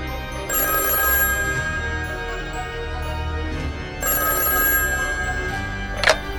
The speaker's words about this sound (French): Quelques jours plus tard, le téléphone sonne à Onestio.